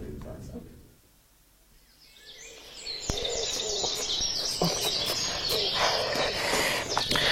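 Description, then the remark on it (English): After a couple of quiet seconds, a nightingale bursts into song from near the ground: a rich, continuous stream of bright trills and sharp whistled notes, steady until the end. “That's the nightingale.”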